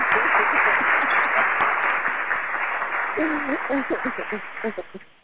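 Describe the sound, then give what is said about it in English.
A burst of dense applause, many hands clapping in a steady wash that gradually thins and fades, with voices rising over it in the final seconds. “Yo, we definitely got to give you a round of applause.”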